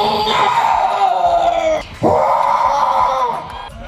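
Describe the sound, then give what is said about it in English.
A contestant on stage with a microphone at a Sasquatch calling contest belts out a long, loud, wavering howl imitating a Sasquatch scream, breaking briefly for breath before launching into a second drawn-out wail, with faint crowd noise behind. “They have a microphone. They're allowed, I guess, a few seconds. And they just kind of belt out a different kind of scream, as it were, which I like.”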